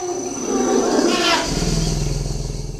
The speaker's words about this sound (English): This is what it sounds like when a family of elephants drinks together from a marsh in the Central African Republic.